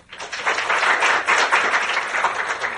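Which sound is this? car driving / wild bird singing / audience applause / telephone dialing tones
audience applause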